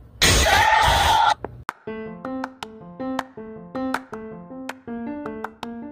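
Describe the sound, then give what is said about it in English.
One loud, harsh cough bursts out at the start and breaks off after about a second. A run of bright, plucked melodic notes follows at a steady pace. “I'm starting to cough a lot, probably starting the beginning stages of cancer.”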